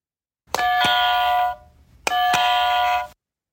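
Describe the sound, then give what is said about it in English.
An orange electronic game buzzer sounds twice, each burst a bright, buzzy, harmonic tone lasting about a second with a short pause between. It is loud and plays alone, with no talking. “And as I picked up the orange buzzer, Murphy, who was also orange, came over to me and he froze when he heard that noise.”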